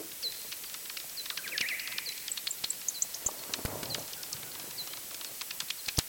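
Heavily slowed-down courtship calls of males courting females and forming small groups during mating: a busy, irregular stream of short high chirps, whistles and dry clicks, somewhat birdlike, over a steady hiss, with no talking.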